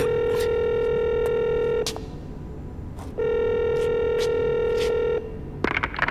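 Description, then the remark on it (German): A telephone call to a police inspector rings over a speakerphone: two long, steady buzzing ring tones separated by a pause, with faint keypad clicks and handling noise, then a clattering pickup at the end. “Ich werde jetzt Kommissar Reynolds anrufen und ihm von unserer Vermutung berichten”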